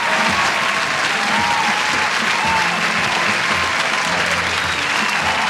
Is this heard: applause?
yes